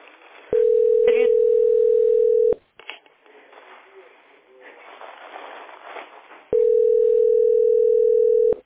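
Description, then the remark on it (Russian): A telephone ringback tone sounds in two long, steady, low-pitched buzzes about four seconds apart, with a hiss of line noise filling the gap, and no one picks up. “Смотри, трубку не берут, а?”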